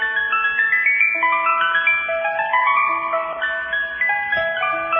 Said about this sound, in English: Do you like ice cream? I like ice cream, but I have to tell you, you know the sound of the ice cream truck? Oh. When you're a kid.